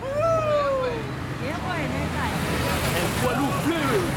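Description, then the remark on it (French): A dense, steady roar of motorway traffic with cars rushing past, loud throughout, with a few brief whining, gliding tones rising over the din. “Le fracas des voitures.”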